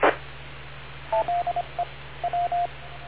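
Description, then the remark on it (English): An EchoLink radio courtesy tone: after a brief burst of static, a string of short, clear electronic beeps plays in a quick, uneven pattern of about eight tones. No one speaks. “I think I'll leave this courtesy tone that the Echo Link thing makes on, because that way they know that you've let go.”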